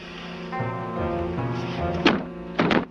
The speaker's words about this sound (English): He tries the door.